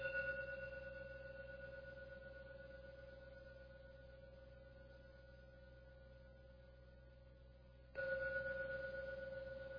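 A meditation gong rings with a steady, humming tone that slowly fades over several seconds before being struck again, the fresh ring blooming brighter near the end. No one speaks.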